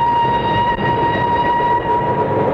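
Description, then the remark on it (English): A loud train rumbles steadily while a sustained high metallic squeal rings over it, like brakes as it pulls in. No voices are heard. “Oh, I hope he's on this train, Uncle Flax.”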